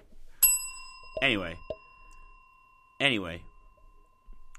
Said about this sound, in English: Bruce Sharp says, ring the bell.